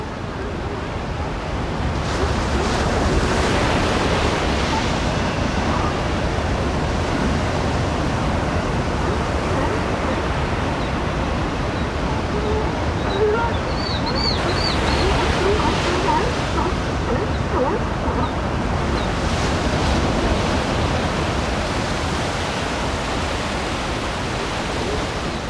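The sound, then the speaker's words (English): Pacific surf at Big Sur, on a remote beach of the central California coast, roars in a steady, dense wash, waves swelling and breaking in slow surges every several seconds, loud throughout, with some barking sea lions and no talking. “The mesmerizing sounds of the Pacific at Big Sur.”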